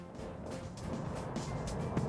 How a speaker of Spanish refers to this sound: Sé dónde está, en la avenida de Andalucía, pero ya estamos en el coche, así que vamos para allá.